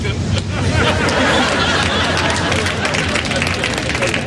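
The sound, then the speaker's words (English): A dense crowd of onlookers murmurs, many overlapping voices chattering at once with no single speaker standing out, steady and fairly loud throughout. “We don't need a crowd.”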